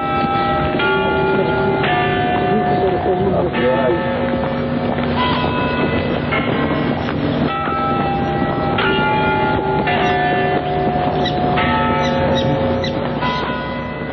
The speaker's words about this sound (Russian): Часы Невьянской башни. Она падающая, совсем как Пизанская, только угол наклона меньше.